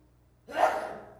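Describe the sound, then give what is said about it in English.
A single sneeze bursts out after a quiet moment: a sudden, breathy rush of noise that peaks quickly and then trails off over about half a second, with no talking around it. “Bless you.”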